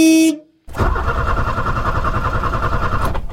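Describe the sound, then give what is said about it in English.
A short, bright car horn blast from an Austin Allegro, then a brief pause before its engine starts up and settles into a steady, rumbling idle with no voices. “Blake Austin, performance car of the week.”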